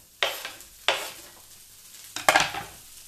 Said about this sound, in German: Dann nehmen wir so ein Stückchen Zwiebel und schauen, ob die Pfanne schon heiß ist. Hört sich brutzelig an. Dann hauen wir erstmal die Karotten rein.